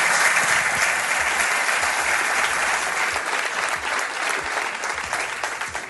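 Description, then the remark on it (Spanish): An audience claps for two guests steadily for several seconds, a dense, even wash of many hands that holds loud throughout and eases slightly toward the end, with no one speaking. “Os pido un aplauso para ellos dos, muchas gracias.”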